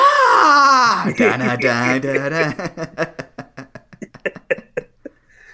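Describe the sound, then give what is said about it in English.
A voice imitates Triple H's WrestleMania scream: a loud, strained, drawn-out yell that wavers and drops in pitch over about two seconds, then breaks into a run of short, breathy laughs. “Or the Triple H WrestleMania scream.”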